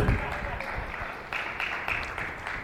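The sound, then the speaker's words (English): A crowd applauds steadily for the band, a band: a dense wash of many hands clapping at once, fairly loud and sustained throughout with a few sharper bursts standing out. “Let's have another big round of applause for our band, ….”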